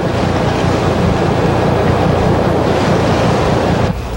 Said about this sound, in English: Five days into the experiment, a fierce storm hit Heard Island. Foot waves rocked the ships and damaged all the underwater speakers.